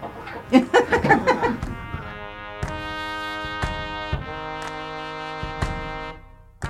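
A chicken clucks in a quick burst of choppy calls, then a steady sustained tone takes over, punctuated by sharp, evenly spaced taps until the end.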